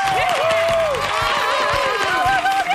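A studio audience of third-year ESO students from the Padre Damián Sagrats Cors school applauds steadily on Catalunya Ràdio's show APM, with dense clapping and some cheering over a bright musical jingle playing at the same time, loud and continuous throughout.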